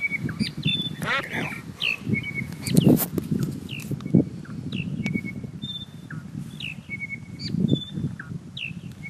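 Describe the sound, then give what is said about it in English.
Western whipbird calls repeat throughout, a series of short, sharp whistled notes, set against a steady low rumble of wind or outdoor background noise. “Western whipbirds are territorial, they live in pairs, and there are four subspecies jammed into a tiny pocket of southwest WA.”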